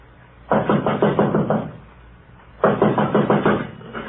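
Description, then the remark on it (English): Two bursts of rapid, firm knocking on the locked door of Mr. Ackroyd's study, each about a second of quick raps, separated by a short pause, as someone knocks and tries the locked door. Fairly loud, with no voices. “Door's locked.”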